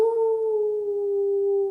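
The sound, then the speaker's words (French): A single sustained wolf howl holds one steady, slightly falling tone for nearly two seconds, clear and fairly loud, with no voices around it. “Et là, il est tombé sur un loup.”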